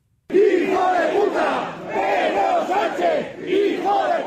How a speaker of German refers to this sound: Sanchez, du Hurensohn, beleidigten mehrere hundert Franco-Anhänger in der Nähe des Friedhofs den spanischen Ministerpräsidenten.